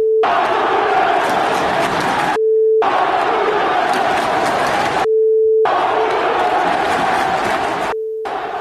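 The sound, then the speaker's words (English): A huge crowd of Yankee fans boos and jeers the Astros at a Yankees–Astros baseball game in three long, loud surges separated by brief breaks, with a steady droning tone sounding during the pauses. “Do you have a sample, by the way, Jorge, of the booing that they got?”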